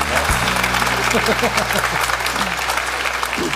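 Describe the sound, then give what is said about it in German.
A crowd applauds with dense, steady clapping that fills the whole few seconds at an even loudness, while a voice is briefly heard beneath the noise. “Also da gibt es Applaus.”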